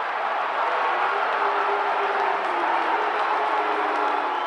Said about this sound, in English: And not when the baseball fans of San Diego, normally a pretty laid-back bunch, mix boos with their cheers during Bond's home run trot.